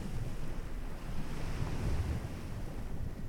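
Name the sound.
waves breaking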